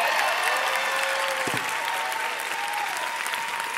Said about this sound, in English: Y'all can clap it up real quick.